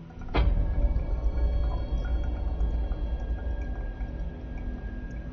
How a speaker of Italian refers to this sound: Esce acqua dal freezer.